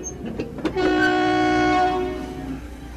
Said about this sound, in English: The Polar Express let out a loud blast from its whistle and sped away.